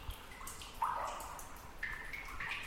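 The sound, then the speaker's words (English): Water drips fall at irregular intervals in an abandoned iron ore mining tunnel about 300 feet underwater on Belle Island, Newfoundland, each plink ringing with a hollow, reverberant echo off the walls, over a quiet hiss of ambience. “You can hear water drips echoing off the walls and the smell of salt from the encroaching sea.”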